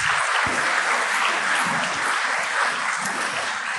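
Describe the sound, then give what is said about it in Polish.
Steady, dense applause from an audience for the male speakers leaving the stage, a continuous wash of many hands clapping at an even loudness for several seconds with no voices on top. “Wielkie brawa dla panów.”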